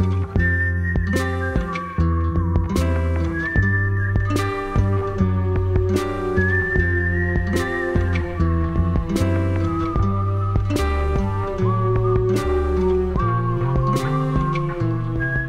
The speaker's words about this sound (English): You got that whistling at the end of ….